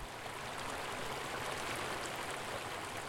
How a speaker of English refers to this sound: For me, a run there meant a mind clear and cool, washed clean by the sound of running water streaming from Diamond Lake at the trail's end.